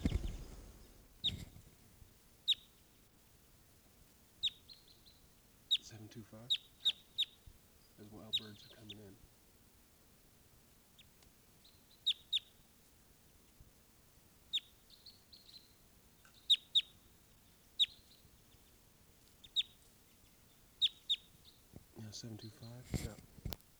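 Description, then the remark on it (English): A Type 2 crossbill, bird 725, in a ponderosa pine by a camp, gives a series of short, sharp, high-pitched test calls at irregular intervals, with brief bursts of lower rustling or handling noise in between. “This is bird 725 giving test calls here.”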